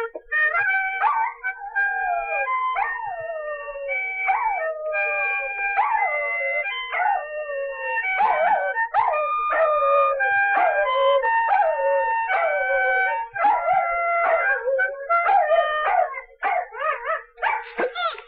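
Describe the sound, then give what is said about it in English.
A man imitates a terrier's howling and yipping while another man plays steady, chord-like harmonica. It is loud and continues for the whole stretch, with quick rhythmic yelps near the end. “plays the harmonica, and I sing to it like a dog.”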